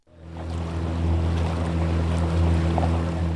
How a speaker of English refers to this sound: The only way for civilians to get to the town of Dhulu'ir is by boat across the River Tigris, since ISIS blew up the main bridge here. Steering through long reeds, we pull into a little harbour.